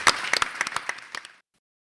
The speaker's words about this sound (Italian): Grazie, grazie Vittorio, facciamo un applauso.